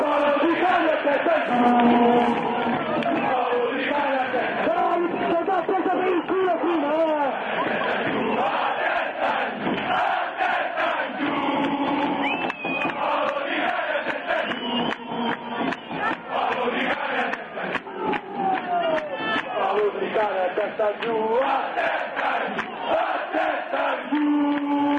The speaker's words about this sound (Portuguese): Bom, tá aí a torcida. A gente já botou isso tantas vezes, a torcida do Livorno.